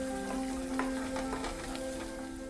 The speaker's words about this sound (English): And it's raining. She steps on the porch for a minute to watch the rain. Wow, that was lightning and thunder in Ona.